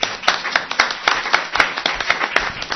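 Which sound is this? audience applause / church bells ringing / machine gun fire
audience applause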